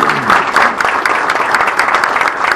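An audience claps steadily, a dense, even patter of many hands that stays loud and sustained throughout without any voices standing out.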